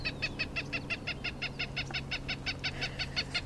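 cooper's hawk call played

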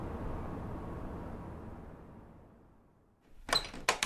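old door opening

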